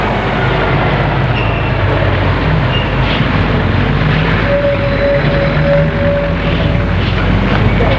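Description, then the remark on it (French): A bus engine rumbles loudly and steadily as the vehicle pulls away, with a brief tonal whine rising over the heavy drone partway through. No one speaks. “Le car va se remettre en route.”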